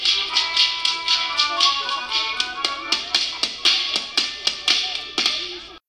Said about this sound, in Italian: Colpi di frusta a ritmo di musica. Il passato, presente e futuro del gruppo folcloristico Frustatori di Ferno.